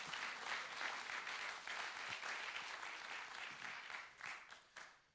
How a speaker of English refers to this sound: Your answer is in the house. If you believe that, clap your hands together, amen.